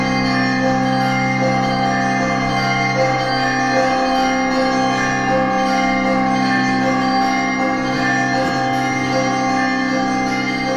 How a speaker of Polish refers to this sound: To jest wejście jakby takiego szybkiego tempa wszystkimi dzwonami naraz.